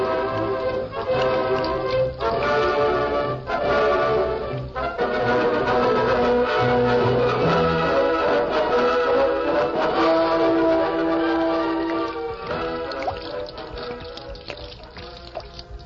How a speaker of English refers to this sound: You pour oil in river? That's right. We're going to pour all 60 barrels of it into the river. We've got to hurry. There isn't much time.